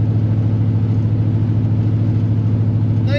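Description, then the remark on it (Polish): The exhaust of a car's 5.7 V8 engine, about 200 horsepower with a three-speed gearbox, rumbles at a steady idle, deep and throbbing, loud for the whole stretch, with a faint higher-pitched sound creeping in at the very end. “A te wydechy robią przede wszystkim cały show w tym wszystkim, dokładnie.”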